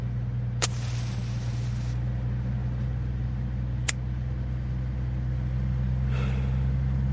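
A car engine drones steadily as the vehicle drives through the suburbs, a constant low rumble throughout, with a couple of sharp clicks and a brief hiss early on.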